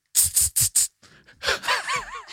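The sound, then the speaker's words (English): A voice imitates the snake-like noise a partner makes in the night to stop someone's snoring: four quick, sharp hisses in a steady rhythm, followed by breathy, wavering vocal noises that rise and fall in pitch. “To be a snake, like you're a cat.”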